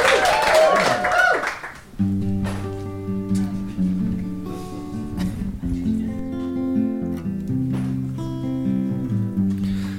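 A short burst of audience applause and cheering for about two seconds, then a bright, sustained synth jingle with steady chords takes over for the rest.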